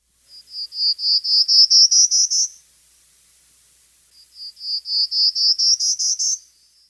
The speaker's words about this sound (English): Also, like some of its relatives, the prairie warbler bobs its tail, and the distinctive song should clinch the identification.